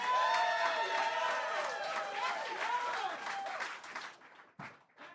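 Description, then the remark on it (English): An audience cheers loudly at the host's request, as a practice cheer, with many overlapping whooping and shouting voices over a clattering wash of claps, fading after about four seconds into a few scattered final yells. “I intend to do my best, and when I do my best and you agree with me, you should all cheer. Can we try that?”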